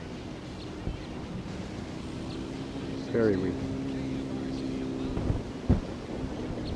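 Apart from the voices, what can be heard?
wind blowing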